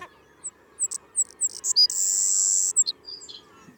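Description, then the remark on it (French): A bird call made of several quick high chirps that break into a sustained, harsh, strident buzzing note lasting under a second, then a few more sharp chirps, with no voices. “Plutôt qu'un buzz, il y a quelque chose de super strident.”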